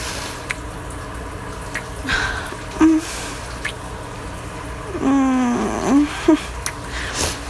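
household object, shower water running

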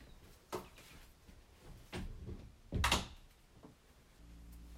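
household object, door being closed

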